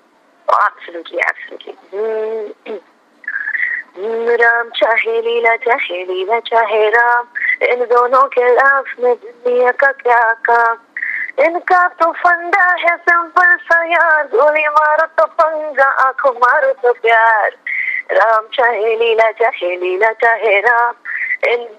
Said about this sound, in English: So can you please hum two lines from your most popular song before we end?